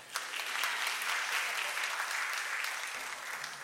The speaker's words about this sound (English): You're free to clap.